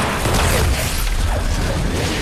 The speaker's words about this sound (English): As the gunshot pierces the window, decompression causes loose items to be sucked out of the aeroplane. The passengers cower in the frightening noise as lost belongings swirl around the cabin.